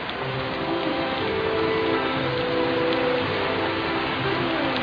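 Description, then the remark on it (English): Steady, even hiss of rain falling in New York throughout, with a faint low humming drone underneath and no voices. “I love the way the rain snows.”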